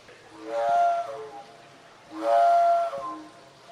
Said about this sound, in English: We also have a new musical instrument that was designed called the hydrocordion, which uses water to change the frequency of the sound in the same way that organ pedals might do as well. Can we hear it?